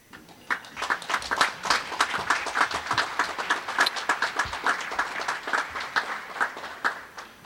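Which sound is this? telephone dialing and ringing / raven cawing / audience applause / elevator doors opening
audience applause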